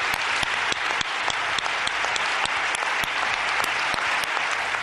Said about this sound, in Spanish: Venga a aplaudir.